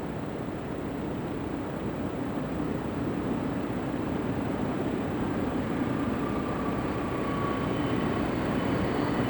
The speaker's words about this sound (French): C'est-à-dire, on dirait un moteur d'avion. Pas un réacteur, un moteur de DC-3. Si tu vois un moteur à piston, un vrombrissement.